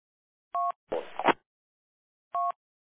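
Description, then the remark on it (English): Two short dual-pitch DTMF identification beeps of four-wheel drive associations sound over the LAD 3 radio channel, separated by a brief rough burst of static, with a pause of nearly two seconds before the second beep. “And then I put all the four-wheel drive association that are on LAD 3. They're all their tones, Vancouver Island, Lower Mainland, Okanagan, this and that, and blah, blah.”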